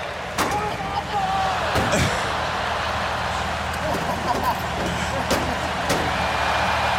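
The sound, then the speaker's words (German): Stock car engines roar steadily while several sharp, loud metallic bangs ring out as the cars ram into each other in a stock car crash challenge, with voices faintly audible in the background. “da gibt es die TV Total Stock Car Crash Challenge und da rammt Stefan Raab ihn die ganze Zeit ins Auto”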